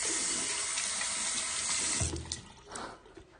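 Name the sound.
tap water running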